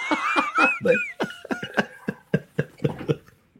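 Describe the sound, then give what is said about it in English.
Someone who is getting a cold coughs up phlegm in a rapid run of about a dozen harsh, throaty bursts, keeping a steady choppy rhythm with no talking. “I was coughing up.”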